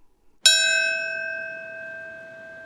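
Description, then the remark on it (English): A single deep memorial bell is struck once and rings on, its bright tone humming steadily and fading slowly in an otherwise quiet space, with no voices. It is one of three bells rung on the 15th anniversary of 9/11 to mark the time a plane crashed into the Pentagon. “Three bells rang out to mark the time a plane crashed into the Pentagon 15 years ago today.”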